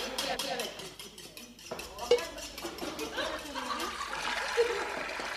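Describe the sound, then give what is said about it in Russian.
A huge busy kitchen with blazing hearth fires, a steady bubbling, hissing wash of boiling liquids and steam, and scattered metallic clatters of knives and utensils, moderately loud, with faint voices murmuring in the background. “Но раз открыв уже этот удивительный, полыхающий огнем очагов мир пара, шипения, клокотания кипящих жидкостей, стука ножей и вкусных запахов, мальчик усердно навещал огромное помещение.”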